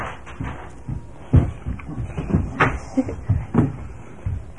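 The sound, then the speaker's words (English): Small toy figures topple and clatter, a quick irregular run of light knocks and taps as several pieces fall against each other and a hard surface. “Oops. Uh-oh, I just knocked everybody.”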